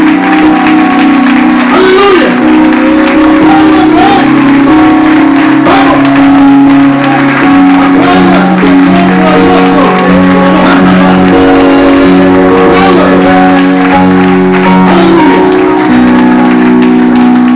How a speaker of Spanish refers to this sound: Ahora aplaudo al Rey con alegría, con gozo profundo del Espíritu.